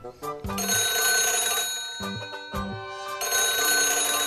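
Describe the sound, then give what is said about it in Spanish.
A telephone rings loudly and steadily for several seconds, its bright metallic tone briefly interrupted by a couple of short thumps, with no one speaking. “El teléfono, la gripe, el lumbago.”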